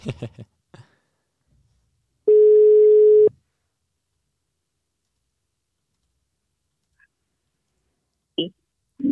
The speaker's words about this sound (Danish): Telefonen ringer i Spanien.